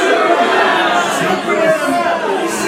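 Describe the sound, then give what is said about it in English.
A dense crowd murmurs and chatters excitedly as they watch a red streak in the sky and say the name Superman for the first time, many overlapping voices forming a steady, loud wash of sound with no single words standing out. “And it catches like wildfire throughout the crowd. Everyone saying the name for the very first time.”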